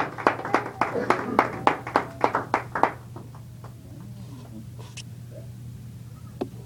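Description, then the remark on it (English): A church audience claps together in praise to the Lord at a morning service, in a steady, rhythmic beat for about three seconds, then the clapping fades into a few scattered claps over a low, constant hum. “Let's give the Lord a hand clap of praise this morning.”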